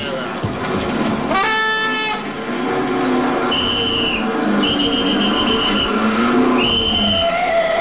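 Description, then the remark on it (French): Loud car horn honks sound in several blasts, one short and a few longer sustained ones, over a busy, noisy background. “mais faut pas vous fâcher, je vous dis que je n'ai pas klaxonné.”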